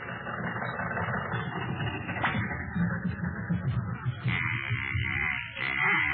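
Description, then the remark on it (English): An old car engine, a car bought in 1924, chugs and rumbles steadily, rough and uneven, with a brief sputtering dip near the end as it stalls, before the rattling noise picks back up. “Oh, darn it, it stalled again.”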